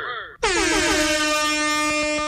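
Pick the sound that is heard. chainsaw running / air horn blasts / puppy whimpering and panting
air horn blasts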